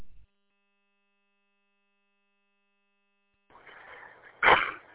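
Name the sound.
cough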